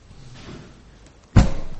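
A door shuts with one sharp, loud thud against a quiet background, and a low rumble lingers briefly after the impact.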